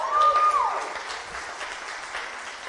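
An audience claps steadily in a dense, sustained wash of applause welcoming a speaker, with a brief whistle near the start before the clapping tapers slightly.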